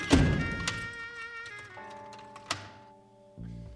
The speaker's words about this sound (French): Attendez, je vais fermer ma porte.